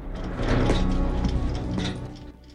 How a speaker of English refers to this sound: The doors to the room are opened, and Shao Kahn and Chinook sweep out.